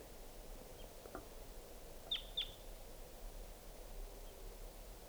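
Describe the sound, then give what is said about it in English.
Two quick, sharp chip notes from a wild crossbill, a type 2 call, at 6:16 p.m., ring out in close succession over a steady hiss of background noise. No one speaks. “Here comes a wild crossbill, 6:16 p.m. type 2 bird.”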